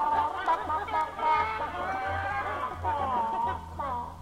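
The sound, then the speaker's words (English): A busy chorus of chickens clucking and squawking over one another in a chicken coop, steady, with a low murmuring rumble underneath throughout. “I can hear foul language coming out of that honky-tonk.”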